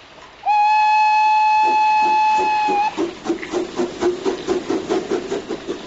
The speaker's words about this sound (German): Der Lokomotivführer blickte prüfend zum Himmel hinauf, bestieg dann seine Emma und fuhr mit ihr in den Regen hinaus.